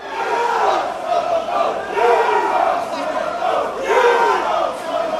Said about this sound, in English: The Melbourne drizzle could not keep the die-hard soccer fans away. Even when it turned into a downpour, the flags were out and the chanting got louder.